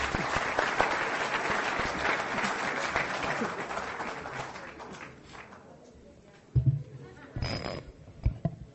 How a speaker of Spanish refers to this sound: Un aplauso para tus alumnos.